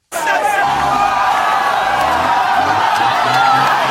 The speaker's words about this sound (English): And then the crowd there shouts as a team of the guys in the protective suits come out, catch the man, kind of chase him down, catch him, and push him into the back of a truck to be brought back to the clinic.